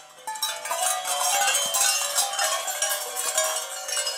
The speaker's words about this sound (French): Des ateliers seront animés en parallèle pour permettre à tout un chacun de satisfaire son esprit de découverte, comme par exemple celle provoquée par les sons de casserole